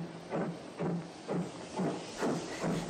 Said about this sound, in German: Achtung, bitte auf Gleis 3. Soeben fährt los der ICE Fürst Bismarck über Timbuktu Achselschwang nach Polaroid. Bitte Vorsicht.